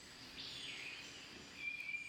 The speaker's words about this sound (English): Over the summer, the Sounds of Nature team strapped waterproof recorders to trees on public and private lands across southern Minnesota. They pressed record and collected the sound of birds for 6 weeks, day and night.